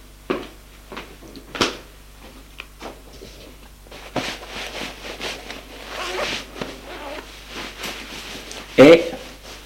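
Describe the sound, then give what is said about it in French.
A man undressing at home pulls a clothing zipper several times in short, raspy bursts, amid rustling fabric and handling noises, with one sharper clunk near the end. “Va se déshabiller.”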